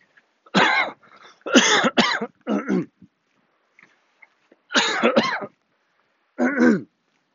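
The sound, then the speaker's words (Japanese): Several harsh coughs and throat-clearing bursts come in two clusters separated by a short pause, each burst loud and raspy, with no talking in between. “咳が出るとコロナ、アフターコロナでの世界では咳をね、人前であんまりできないっていう世の中になりまして”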